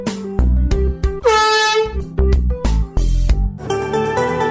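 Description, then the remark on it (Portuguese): Loud, blaring air horn blasts from a compressed gas can, several honks in quick succession with a harsh, brassy tone, with no one talking. “Ou seja, cuidado ao manusear o gás de buzina, você pode pagar com a sua vida.”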